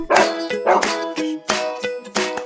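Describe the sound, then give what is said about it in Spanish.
A dog barks four times in a steady rhythm, each bark loud and sharp-edged, with brief pauses between them and no one talking. “Pero son principalmente mascotas, la más popular del planeta. ¿Sabes cuál es? ¡El perro!”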